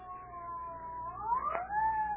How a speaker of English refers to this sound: What's that, Daddy? Why, I think it's the ambulance.